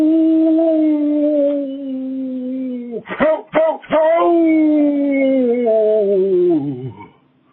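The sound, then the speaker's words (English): A grandfather imitates a coyote howl in a voicemail message for a howling contest, holding a long, steady wavering tone, breaking into a few quick yips midway, then sliding down and fading out at the end. “All right, well, this has been a hard decision, and I truly believe that anybody who called my voicemail to howl like a coyote is a winner, cosmically speaking.”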